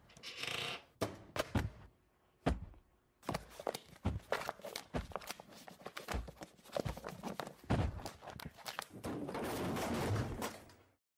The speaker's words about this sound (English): Did you just knock that shelf over? Nope. Did you? I didn't even touch it.